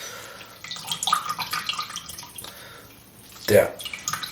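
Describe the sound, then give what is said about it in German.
Water drips and trickles as a water-soaked bread roll is squeezed out by hand until water comes out, with a louder splashy gush near the end and faint voices in the background. “Der den Stein drückt, ne? Bis Wasser rauskommt.”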